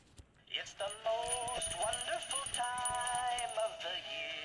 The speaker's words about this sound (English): He rings a little jingle bell, and then his head starts spinning around in a way that's truly upsetting. That's what it sounds like.